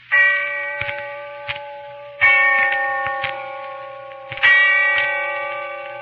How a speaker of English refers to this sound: And when I heard the bell tolling somewhere in the distance, I remembered.